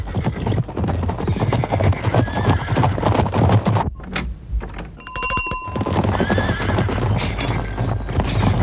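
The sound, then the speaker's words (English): A herd of zebras whinnies and snorts over a steady clatter of hooves, with a brief lull midway and a few bright, bell-like ringing tones cutting through. “And now a herd of zebras visiting the same chemist to ask for something for the weekend!”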